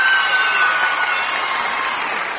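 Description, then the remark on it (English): A crowd at the Opry cheers and applauds a guest star in a dense, steady roar of clapping and shouting that holds loud for a couple of seconds, easing slightly toward the end. “Let's make some noise.”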